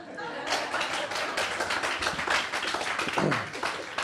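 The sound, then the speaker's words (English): An audience claps together, a dense, steady patter of many hands that swells in after a brief lull and stays loud throughout, with faint voices mixed underneath. “If you guys are going to clap.”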